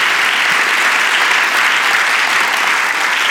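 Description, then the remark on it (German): Steady, dense applause from a large audience for the service of the leaders, loud and sustained throughout with a bright, crackling texture of many hands clapping at once and no voices standing out. “einfach mal einen mächtigen Applaus geben für ihren Dienst”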